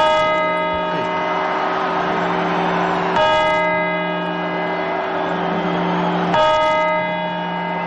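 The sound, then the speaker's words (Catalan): Three slow, heavy clock bell chimes, part of the twelve New Year's Eve chimes at the Puerta del Sol in Madrid, ring out about three seconds apart, each ringing on with a long humming resonance over a steady murmur of background noise. “Això són les 12 campanades de la Puerta del Sol de Madrid el dia de Cap d'Any.”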